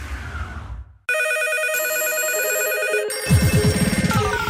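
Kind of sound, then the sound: signal or alarm, telephones ringing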